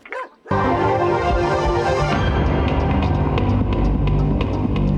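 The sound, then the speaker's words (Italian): A dog barks loudly, in a dense, almost unbroken stream of agitated yelps and whimpers that starts abruptly after a brief sound and a moment of silence. “Poi cane. Senti come abbaia.”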